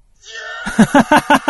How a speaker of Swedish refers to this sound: Det är Man Screams nummer 3, Gut-Wrenching with Fall.